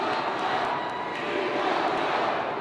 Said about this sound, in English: What are they yelling? Do you know? We want Trump. We want Trump? Okay. Or we want Trump. We love Trump.